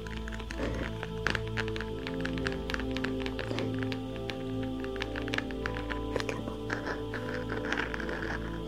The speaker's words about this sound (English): If you're wondering, this floor is not hard. It's quite soft, and it makes amazing sounds.